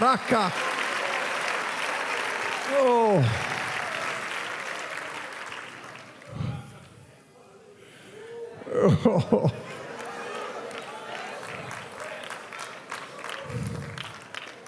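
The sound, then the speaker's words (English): An apostolic church audience claps hands in a dense, continuous wash while voices shout and call out over it, loud, easing briefly in the middle before swelling again. “Oh, clap your hands, apostolic. Oh, shout, apostolic.”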